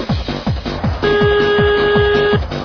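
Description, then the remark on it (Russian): A telephone rings with a rapid electronic trill of repeated chirps, joined midway by a steady sustained tone, loud with no one talking. “Ни хрена себе телефончик!”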